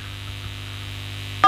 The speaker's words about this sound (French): Ah non, là il nous a fait. Non, faut pas appuyer sur les touches du téléphone.